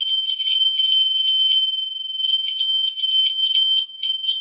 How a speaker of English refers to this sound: So you hear that bell.